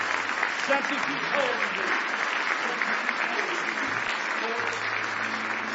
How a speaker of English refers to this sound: Give Jesus another hand clap of praise.